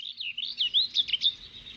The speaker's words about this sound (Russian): И вдруг прямо к одуванчику спорхнул с ветки воробей.